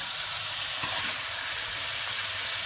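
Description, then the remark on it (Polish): Vegetables with parsley, lovage and chives fry in a pan with a steady, dense sizzle, a bright crackling hiss that holds at an even level throughout, with no voices. “Niech to się przysmaży dobrze.”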